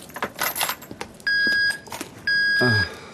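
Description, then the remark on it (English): Keys and loose coins clatter and jingle into a tray at an airport security check in a quick series of metallic rattles, followed by two sustained electronic beeps, the second with a soft thud beneath it. “Keys and change in the tray, then step through, sir.”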